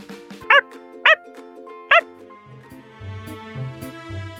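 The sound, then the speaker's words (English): A pet puppy named Max gives three short, high-pitched, loud yapping barks in quick succession over a soft, steady musical background that continues after the barking stops. “I sure do. I have a puppy.”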